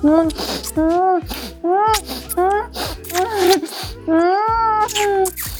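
woman moaning

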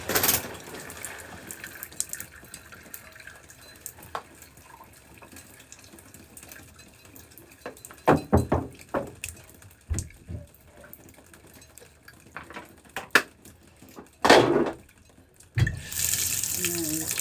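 shower water running

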